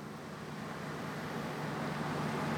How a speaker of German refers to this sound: Doch genau in dem Moment, als sie die Straße betritt, taucht in der Ferne ein Auto auf.